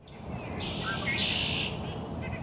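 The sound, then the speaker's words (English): Male red-winged blackbirds trill and call in the woods outside Maine Audubon's headquarters in Maine on a chilly morning, a bright buzzy song rising over a steady outdoor hiss, with a few softer chirps trailing at the end and no one speaking. “Maine Audubon's Doug Hitchcock cranes his head to catch sight of red-winged blackbirds bobbing and diving in the woods outside the group's headquarters.”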